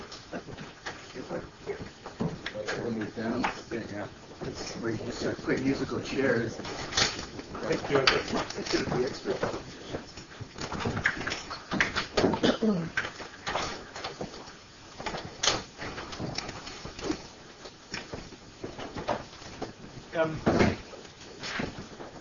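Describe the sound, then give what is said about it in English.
Repeated scraping, knocking and clattering as chairs are shifted about and moved into place, with irregular bumps over about twenty seconds and a low murmur of voices underneath. “We're going to need some more chairs. Two chairs. There's some chairs here.”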